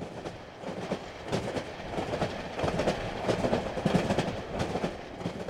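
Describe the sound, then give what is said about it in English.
A train carrying activists across the country rolls steadily along the rails with a continuous low rumble and repeated clickety-clack of wheels over track joints, with no voices. “As the People's Climate Train crossed the country, activists looked out the windows and saw just how beautiful the land is”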